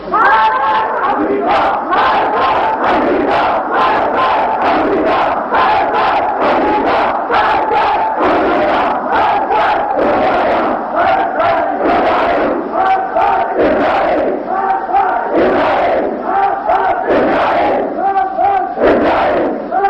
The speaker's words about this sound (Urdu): تو پاکستان کے نوجوانوں نے، بوڑھوں نے، مستورات نے، علماء نے، سب آپ کی اپیل کو لبے کہتے ہوئے یوم القدس بنا کر امریکہ اور اسرائیل اور روس کے خلاف مارگ پر امریکہ، مارگ پر روسیا، مارگ پر اسے نعرے لگائے.